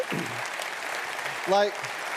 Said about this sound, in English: I asked our creative and comms director how long his team took to put this together, and he calculated that in the last 15 months, it took them roughly 4,000 hours of work to do all that. Would you guys give them a big round of applause?